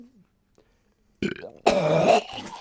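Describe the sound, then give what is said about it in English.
A voice imitates a short guttural pre-burp, then after a brief pause launches into a loud, drawn-out fake retching gag like someone about to vomit, fairly loud against near silence. “What makes it professional is that you do a pre-burp.”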